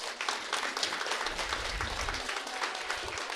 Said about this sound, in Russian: Пожалуйста, аплодисменты.